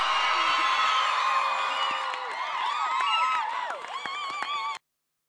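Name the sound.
audience cheering and clapping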